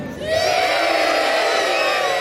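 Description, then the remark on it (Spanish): A large crowd at the Mundial 82 field cheers and shouts in a sustained, loud roar of many overlapping voices that swells quickly and holds steady without a break. “¿Estáis contentos? ¡Sí! ¡Lo escucho!”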